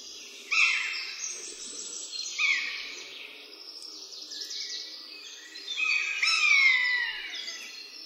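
A pair of buzzards, alarmed at their nest, call in duet, their drawn-out, downward-sliding mewing cries overlapping. The female's voice is higher and longer, the male's lower and shorter, with no talking.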